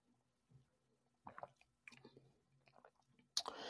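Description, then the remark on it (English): Someone sips tea: quiet slurping and wet mouth noises, a soft swallow, then a brief sharper clink or rustle at the end. No speech. “Let me sip some tea here with this.”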